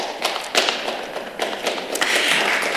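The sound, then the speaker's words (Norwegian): Steady applause from a crowd, a dense wash of many hands clapping with a few sharper claps standing out, holding at an even loudness and swelling slightly toward the end. “Ja, det vært en applaus.”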